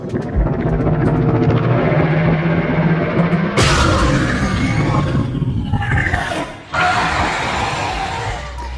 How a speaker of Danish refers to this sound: Og så får vi besøg af en af dæmonerne. Demogorgon. I hvert fald lyden af den. Af monstret fra serien.